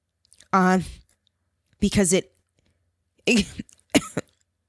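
human body sound, coughing fit

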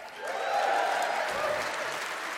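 crowd, applause

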